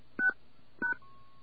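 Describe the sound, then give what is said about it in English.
Two short telephone keypad beeps as random digits are entered for a patient's 7-digit medical record number at a phone prompt, evenly spaced about half a second apart, each a bright dual-tone chirp, followed by a faint steady tone. No one speaks. “Enter the patient's 7-digit medical record number followed by the pound key. Okay, we're just going to enter random digits.”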